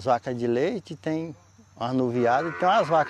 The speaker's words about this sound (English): Milk cows and the calves, he says.